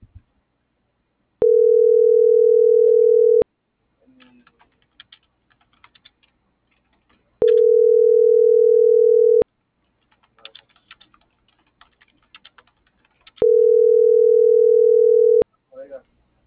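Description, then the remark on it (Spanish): A WhatsApp call's ringback tone sounds three times, each steady two-second ring separated by long pauses, and no one answers. Faint keyboard typing and clicks fill the quiet gaps between rings. “Le marco por WhatsApp, no le llega mi mensaje.”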